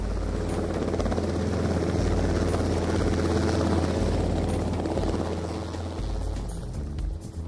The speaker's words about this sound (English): As Pambo and Zumari hurry to get back to work, Inspector Mwamtu and his fellow officers are approaching Chongwe by road, while Zamba Wazamba is arriving by police helicopter.